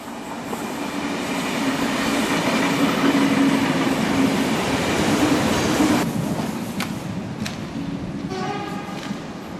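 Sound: train running on rails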